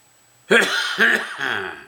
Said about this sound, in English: And by the way, just because I'm coughing doesn't mean to say I've got coronavirus, it just means I've got a smoker's cough.